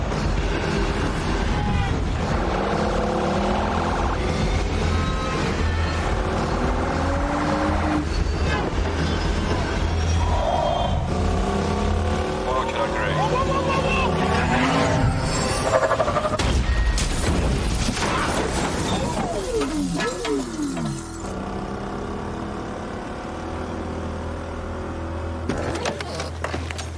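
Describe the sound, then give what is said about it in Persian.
A car engine drives steadily for the whole stretch, its pitch rising and falling as it revs and shifts. The sound is loud, with a constant rumble underneath. “هی وایسا! ماشین رو نگه دار!”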